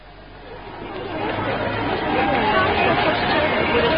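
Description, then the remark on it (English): A dense crowd murmurs and chatters, many overlapping voices blending into a steady hubbub that swells slightly louder after the first second and holds busy throughout. “Cool, what a crowd.”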